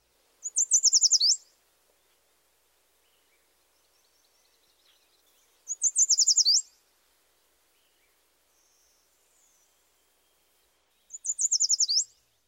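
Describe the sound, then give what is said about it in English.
A yellow warbler sings three bright, high-pitched song phrases, each about a second long and spaced roughly five seconds apart, clear against near silence with faint chips between. “The bright, perky song of this species may be heard in a wide variety of habitats. Here's the yellow warbler one more time.”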